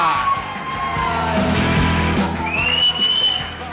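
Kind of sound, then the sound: crowd, audience applause and cheering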